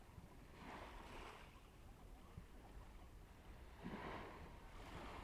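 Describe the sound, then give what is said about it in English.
Ocean waves wash in with a steady, broad roar, two fuller surges swelling and easing over a constant rush, with wind buffeting the microphone and no one speaking. “I think the sound of waves is so therapeutic.”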